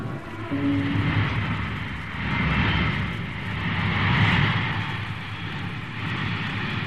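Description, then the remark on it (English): A heavy propeller bomber engine roars continuously as the bomber runs out of control on the runway of an Army airfield, a dense low rumble that swells and surges in waves, with no voices present. “A bomber out of control on the runway.”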